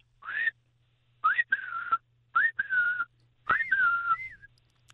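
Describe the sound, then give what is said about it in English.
A person whistles an imitation of the call of a bird they call an oo-oo bird, in several short bursts, each a rising then falling high-pitched phrase with pauses between, clear and fairly loud over a low steady hum. “Well, we call it an oo-oo bird, ooh-ooh. But the sound is the sound is.”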